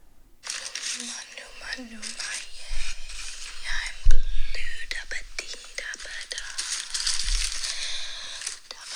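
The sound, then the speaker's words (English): A woman's hands rub across open wrapping paper on a table in a steady, crinkly, hissing rustle with scattered sharp crackles and a few louder thumps, continuing for several seconds after a brief quiet start. “She's rubbing her hands on top of wrapping paper, open wrapping paper on a table.”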